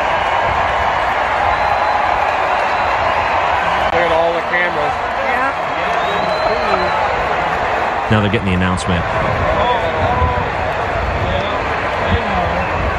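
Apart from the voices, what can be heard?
stadium crowd booing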